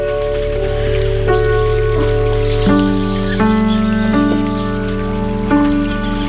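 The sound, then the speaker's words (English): Water flows with a steady, splashing hiss like a babbling brook, while sustained musical tones hold and shift pitch every second or so over it. No one speaks. “Well, don't worry, you don't have to pay it now because we're sending the bills down the brook.”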